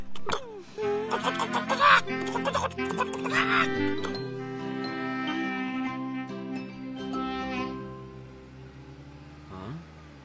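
A hen clucks in a quick burst of short calls during the first few seconds, then quiets down while a steady humming tone carries on underneath.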